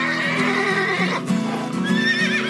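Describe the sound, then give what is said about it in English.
Two domestic palomino horses neigh and whinny in loud, overlapping squeals and shrill cries, continuous, with a faint thud of hooves underneath as they fight each other to decide which is in charge. “Two domestic palominos fight each other to decide.”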